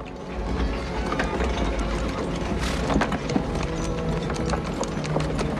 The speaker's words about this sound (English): A couple of horses are being led, dragging a cart behind them.